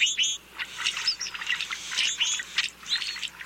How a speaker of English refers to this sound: These brewer's blackbirds wander around the countryside in flocks after the breeding season. They feed on the ground, and whenever a predator approaches, members of the flock sound the alarm and take flight.